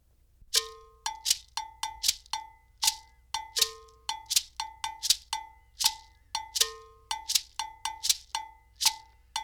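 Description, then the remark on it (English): A metallic bell, struck in a brisk repeating pattern of ringing low and high tones, interlocks with sharp rattle shakes in a steady rhythmic cycle. No voices. “We'll begin with the bell and rattle parts.”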